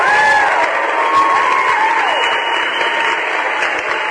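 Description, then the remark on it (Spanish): A crowd claps steadily and loudly for about four seconds on the radio station Radio Escucha, applauding a listener who won an agenda, with cheering and a few high whistles riding over the dense applause. No one speaks. “¡Aplausos nuevamente!”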